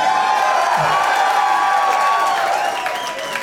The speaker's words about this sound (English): Especially considering the size of the crowd. There's a lot of people here, but I've heard like 1,200 people be less loud than you guys.